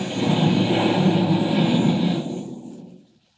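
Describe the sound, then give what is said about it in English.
A loud airplane engine roars steadily for a couple of seconds as the plane dives and crashes, then drops off and fades quickly into silence, with no talking. “I crashed the planes.”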